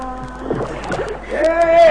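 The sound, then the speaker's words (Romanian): A boat draws near across the water with sloshing and splashing, a steady humming tone swelling toward the end, fairly loud, and voices murmur in the background. “Vine spre noi o barcă în care sunt trecere și ducere!”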